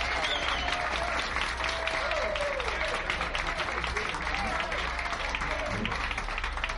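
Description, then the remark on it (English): An audience in Buffalo claps steadily for a guitarist from Columbus, Ohio, making his first appearance there, in a dense, continuous wash of applause that stays loud and even for several seconds, with faint crowd murmur and a few voices mixed underneath. “Let's give him a tremendous round of applause.”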